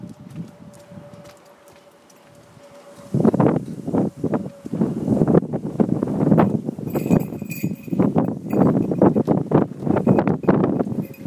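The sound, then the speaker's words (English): Strong wind buffets a microphone in loud, rumbling gusts after a quieter opening few seconds, with faint rustling and small clinking sounds mixed in. “This is how windy it is.”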